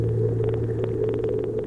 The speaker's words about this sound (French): Trafic maritime qui double tous les 10 ans.